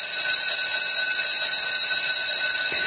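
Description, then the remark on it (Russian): An electric school bell in Belarus rings loudly and without a break for the last-bell school day on 30 May. A steady, bright metallic clatter held at one high pitch for the whole stretch, with no voices over it. “Гэты знаёмы ўсім гук азначае толькі тое, што 30 траўня ў Беларусі адбыліся апошнія званкі.”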